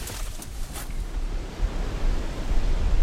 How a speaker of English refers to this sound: You can hear the waves. And this is several days after the storm has left, but during the course of this last storm, the sea was just pounding.